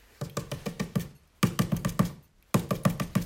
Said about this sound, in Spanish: En la puerta de la casa, alguien estaba rascando.